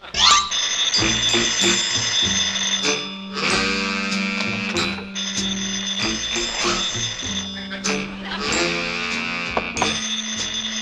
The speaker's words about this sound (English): Oh, the phone's ringing. Why don't you answer it?